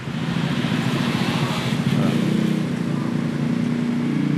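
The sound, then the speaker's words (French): Steady engine drone from some thirty idling and puttering motorbikes packed close together in completely blocked city traffic, weaving between two large buses, a continuous low rumble with a broad hiss of street noise, no pauses. “Là, il doit y avoir une bonne trentaine de motos autour de moi.”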